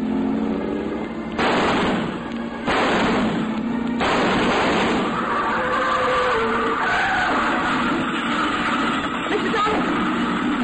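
A car pulls away from a house, about 50 yards off, with tires squealing: loud bursts of screeching, then a wavering, high-pitched squeal that rises and falls over a steady, rough engine rumble.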